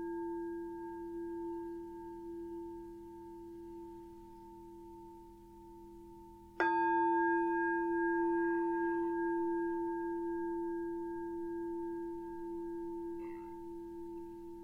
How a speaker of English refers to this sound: we start with three sounds of the bell and the usual settling in introduction.